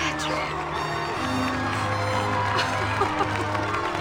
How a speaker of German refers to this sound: Die Menschentraube steht klatschend um die beiden herum.